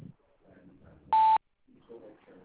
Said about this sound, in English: If you could please leave your name, number, and a brief message at the beep, I'll get back to you as soon as possible.